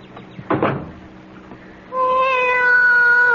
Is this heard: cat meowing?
yes